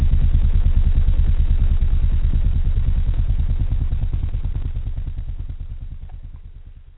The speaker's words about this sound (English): The helicopters.